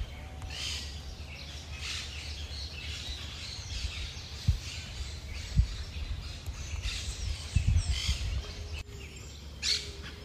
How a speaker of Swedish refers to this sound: Här finns väldigt söta små duvor som heter Paloma Torcaza, vilket ju till namnet liknar ganska mycket turkduva, och man kan väl säga att det är en art som liknar tokduvan, fast den är bra mycket mindre. Lite större än en sparv kanske, bara.